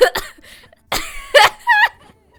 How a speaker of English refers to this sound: What happens to your butthole when you cough?